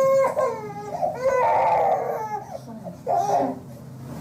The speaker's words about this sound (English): It started with cussing, then you hear slap noises, and his crying changes from a distress cry to a pain cry.